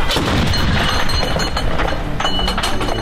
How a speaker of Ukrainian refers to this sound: Івано-Франківська область, наші дні, навчальний центр Нацгвардії. Тут техніка стріляє виключно в тренувальних цілях, хоча і бойового досвіду екіпажам не бракує.